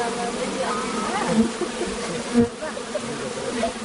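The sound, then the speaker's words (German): A steady, dense buzzing of many honeybees swarming around four beehives in a widow's garden in the village of Fakar, droning continuously at moderate volume with a few brief louder swells as individual bees pass by. “Im Garten von Mulbegin, einer 50-jährigen Witwe, stehen 4 Bienenkästen.”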